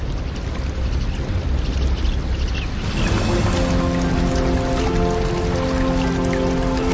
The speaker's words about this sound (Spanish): Y de repente quedar empapado bajo lluvias torrenciales.